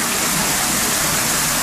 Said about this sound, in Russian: Хорошо, тепло. Можно даже сказать, что это водопад. Ну, такой.